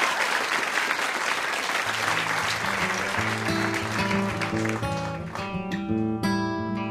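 An audience claps loudly in a dense, steady burst for NPR's Stephen Thompson and Ian MacKay on Ask Me Another; partway through, instrumental music starts up underneath and carries on as the applause thins out and fades.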